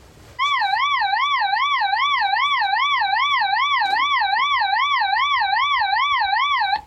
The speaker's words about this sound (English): This is a test message for Royal Observer Corps personnel only. Now hear a demonstration of the alarm signal.